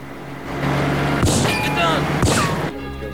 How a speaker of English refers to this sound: They give chase, speeding along a narrow road. One of the men fires at them with a handgun.